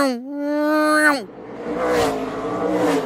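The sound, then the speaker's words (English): A NASCAR race car with a V8 engine screams by, its whine climbing in pitch for about a second before dropping sharply as it passes, followed by a rushing, roaring wash of noise. “So to go to the other extreme, like I'm thinking like NASCAR, and it sounds like”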